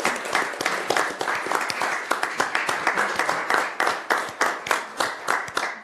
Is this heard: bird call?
no